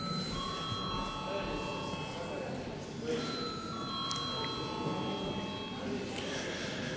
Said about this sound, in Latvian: Lūdzu zvanu.